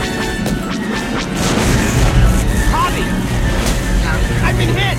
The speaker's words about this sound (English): This is it. Rogue 2 is hit by laser fire and explodes.